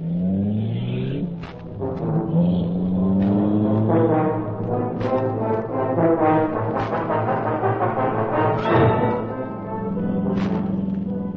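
The Black Beauty, the Green Hornet's car, roars to life and revs hard, its deep, rising drone swelling and shifting pitch as it accelerates and speeds off into the darkness past a section of wall that raises automatically, loud with no voices.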